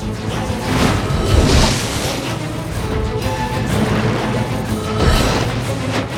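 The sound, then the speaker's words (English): A glistening candy pink longship rowed by Oompa Loompa oarsmen hits chocolate rapids and hurtles downstream, with a steady loud roar of splashing and surging waves and occasional heavier thumps, continuous and without any voices. “The glistening candy pink longship hits some chocolate rapids and hurtles downstream, the Oompa Loompa oarsmen navigating a course through a labyrinth of different tunnels and passageways.”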